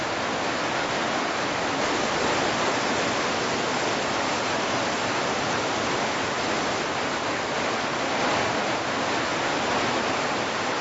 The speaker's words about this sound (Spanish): El hielo intenta no derretirse en un esfuerzo vano de heroica resistencia. Pero pronto, los hilillos se convierten en torrentes.